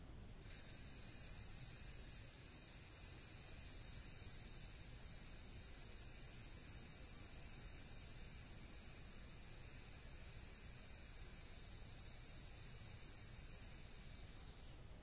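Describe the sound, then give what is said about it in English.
A voice holds a long, steady hissing "sss" for about fourteen seconds, bright and airy like a delicate whistle, with no talking and only a faint low rumble beneath. “That S is the sound of a very delicate whistle.”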